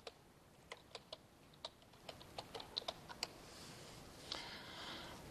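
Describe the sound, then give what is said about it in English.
Typing on a computer keyboard: about a dozen crisp, irregular keystroke clicks at a modest level over a quiet background hiss, ending with a brief softer rustling clatter. “I'm not going and typing one out and doing all the calculations.”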